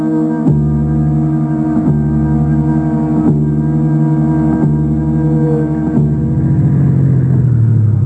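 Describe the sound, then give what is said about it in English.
A car engine runs with a steady, droning hum that shifts pitch every second or so, then winds down and trails off toward the end as the driver turns it off while waiting. No one speaks. “I'm turning the engine off while I wait for you.”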